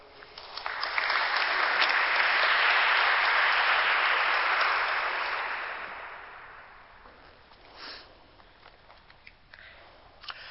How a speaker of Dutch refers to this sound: Graag een hartelijk applaus voor filosoof Emmanuel Rutte.